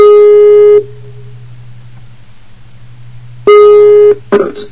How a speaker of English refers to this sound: All right. Let's see. Call. Skype call.